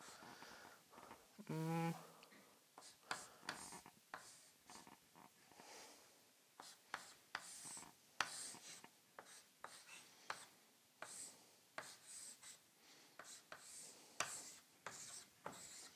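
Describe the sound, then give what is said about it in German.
A pen scratches and scribbles across paper in quick, irregular strokes, drawing a diagram of a lock cylinder with three pins and its rotation axis, fairly quiet, with short pauses between lines and a brief low hum near the start. “Ja, ein bisschen ungünstig gezeichnet.”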